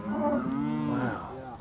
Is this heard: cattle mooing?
yes